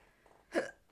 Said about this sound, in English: I'm sorry. You got the hiccup. It's the worst.